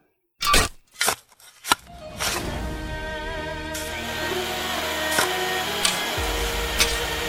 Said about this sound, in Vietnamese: Tiếng quốc xẻng, tiếng máy khoan vang lên đinh tai nhức óc, phá tan sự yên bình của nơi vị Thái Hậu quá cố an nghỉ.